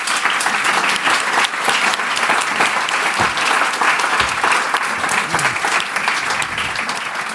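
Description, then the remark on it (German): Sustained applause from a sizable audience, a dense wash of clapping that holds steady and loud for several seconds without any talking, welcoming Obwalden government councillor, education director and SwissSkills president Christian Schäli onto the stage. “Ein Applaus für Christian Schäli.”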